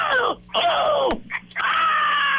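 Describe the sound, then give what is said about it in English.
A contest entrant imitates tennis player Maria Sharapova's screaming grunt: two loud, strained shrieks with a short gap between them, then a longer sustained scream, each falling slightly in pitch. “But Sharapova is, and she's not the only one, but she's known for screaming.”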